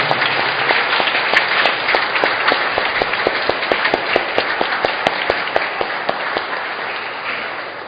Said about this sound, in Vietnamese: Xin ra cộng đoàn vỗ tay thật lớn chúc mừng các em đã được rước lễ lần đầu và các tuổi tác viên hôm nay mừng ngày bổn mạng. Một tràng vỗ tay thật lớn và thật dài.